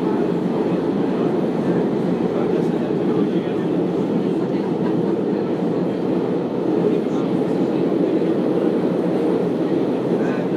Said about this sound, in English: This is just a little bit of the Milan metro for you.